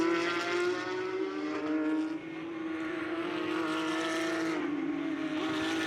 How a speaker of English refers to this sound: But this, in the inaugural season in the United States for the North American Championship for the Porsche Carrera Cup with the very latest cars, the 992s.